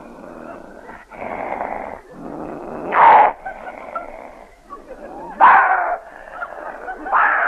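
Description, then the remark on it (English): A voice imitates a dog fight: continuous rough growling and snarling with sharp yelping bursts around the middle and near the end, fairly loud throughout. “A dog fight.”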